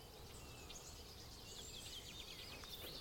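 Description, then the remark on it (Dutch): A marsh warbler sings faintly, a rapid run of varied chirps, rolls and trills continuing throughout over a steady low outdoor rumble. “Al die rolletjes en trillertjes, ja. Dat is de bosrietzanger.”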